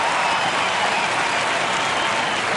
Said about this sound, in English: The crowd's cheering, but he hasn't hit it yet.